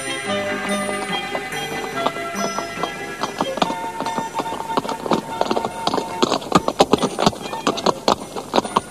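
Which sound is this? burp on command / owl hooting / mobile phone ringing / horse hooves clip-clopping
horse hooves clip-clopping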